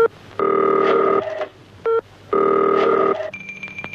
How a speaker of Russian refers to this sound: Для этой передачи Марина сочинила 40-секундную композицию о телефоне.